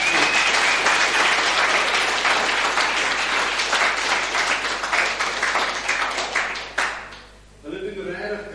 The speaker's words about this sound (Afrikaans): Ek wil net eer as pastoor hier. So kan ons hulle hande klap.